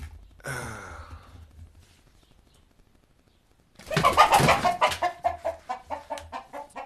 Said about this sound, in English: Had to do it. Threw something at the rooster.